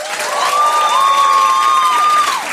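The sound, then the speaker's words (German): An audience at the Waschsalon show claps in a dense, steady burst lasting a couple of seconds, with a sustained high whistling tone running over the applause before both fade; those clapping are the people there for the first time. “Wer ist denn heute hier zum ersten Mal im Waschsalon? Einmal klatschen.”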